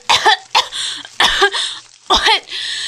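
A girl coughs in four harsh bursts as she is revived after mouth-to-mouth breathing and chest compressions, each followed by raspy, gasping breaths, spaced unevenly over a few seconds with no talking.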